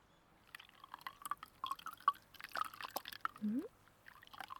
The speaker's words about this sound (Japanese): それじゃ、ぬるま湯で流していこうね。洗面器の方にお顔を傾けられるかな。そうそう、そんな感じ。それじゃあ泡を落としていくね。